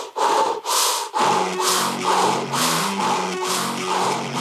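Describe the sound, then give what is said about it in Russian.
Loud, heavy breathing through the mouth with eyes shut, as instructed: quick, forceful breaths in a steady rhythm, around eight in a few seconds, with a faint low hum underneath. “глаза сейчас зажмуриваем, дышим ртом вот так.”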